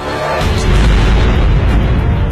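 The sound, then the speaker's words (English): A heavy explosion of a Cornet anti-tank missile fired by Hamas hitting an Israeli bus on a Monday, erupting into a deep, sustained rumbling roar that stays loud and dense for a couple of seconds, with no voices present. “That's sound from a YouTube video released by Hamas showing the attack on the Israeli bus on Monday.”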